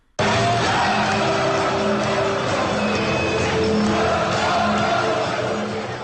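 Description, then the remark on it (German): A huge stadium crowd of about 25,000 football fans roars and cheers as Alemannia Aachen reaches the Niederrhein-Pokal cup final, a loud, dense wall of shouting and chanting that holds steady for about six seconds with no single voice standing out. “So jubeln 25.000 Zuschauer, wenn Alemannia Aachen ins Pokalendspiel, Niederrhein-Pokal, einzieht.”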